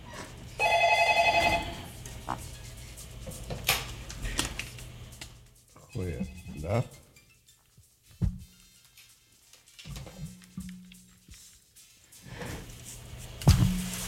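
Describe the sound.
A telephone rings loudly in one short trilling burst near the start, followed by scattered knocks and handling noises with faint, indistinct voices in the background.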